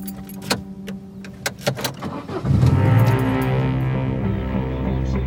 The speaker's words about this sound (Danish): sætter bilen i gear og begynder rejsen hjemad